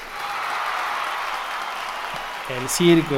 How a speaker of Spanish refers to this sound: El circo se puso de pie. Vea cómo está la gente ahí aplaudiendo, hasta se cimbra la carpa con esa ovación.